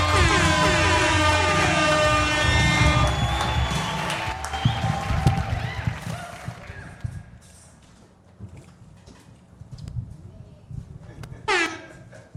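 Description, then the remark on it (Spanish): A bright, horn-like musical sting gives way to an audience's scattered applause that gradually thins out, with a few voices mixed in and a short tonal blast near the end. “Fuerte aplauso”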